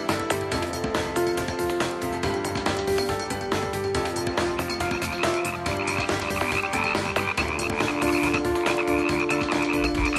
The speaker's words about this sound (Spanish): A las ranas, tenemos a las ranas por ahí un poco dislocadas. Hombre, si las habíamos buscado su charca, las ranas buscan charcas, ¿os acordáis?